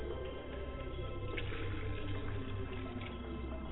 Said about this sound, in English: I take the water and I wash my hands, Ajé.